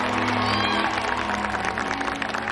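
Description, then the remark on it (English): A crowd applauds steadily for a couple of seconds, a dense, continuous patter of many hands clapping, with murmuring voices mixed in underneath, at a Christmas charity party for the Big Mountain Food Bank put on by three restaurants, on a snowy day. “Everyone in the crowd smiles and applauds.”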